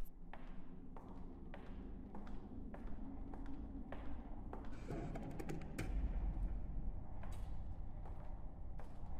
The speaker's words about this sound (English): So, without further ado, cue the footsteps.